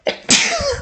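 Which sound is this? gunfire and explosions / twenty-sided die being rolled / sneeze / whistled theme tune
sneeze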